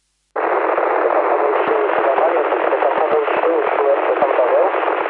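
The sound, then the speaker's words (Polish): A radio transmission received through a repeater, buried in heavy static, a dense band-limited hiss running steadily after a sudden start, with faint, garbled voice fragments barely rising through the noise. “No tak na trójkę odbieram. W dużych, dużych szumach to leci.”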